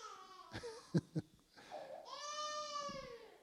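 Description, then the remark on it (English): Two sharp thumps as a young child hits his head, then the child lets out a loud, high-pitched wailing yell that swells and holds for nearly two seconds, strained and tearful. “That's the first time I ever heard him yell that much.”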